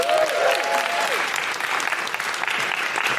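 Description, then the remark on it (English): Steady, loud audience applause fills the whole stretch, a dense wash of many hands clapping with a faint whistle or cheer near the start. “Big round of applause”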